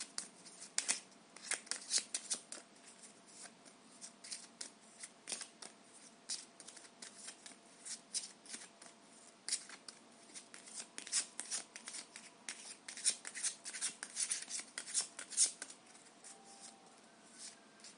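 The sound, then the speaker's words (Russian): Tarot cards being shuffled as they are put back before a new spread, a dense run of crisp flicks and riffling snaps that continues steadily for the whole stretch, with no one speaking. “Так, сейчас я эти карты обратно уберу и сделаю расклад уже конкретно по событиям, которые возможны.”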